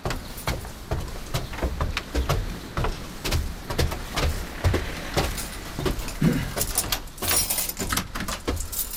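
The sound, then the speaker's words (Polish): Keys jangle and clink as someone works a door lock, a busy run of sharp metallic clicks and rattles lasting several seconds, with no voices. “Tylko ja cały czas mam klucze.”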